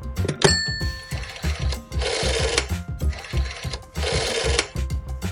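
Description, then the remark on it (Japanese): A telephone is dialed with a quick series of clicks and a short tone, calling Ninohe city in Japan, then rings twice in evenly spaced bursts, fairly loud, with no one speaking. “ということで二戸市に電話をしてみることにしましょう。”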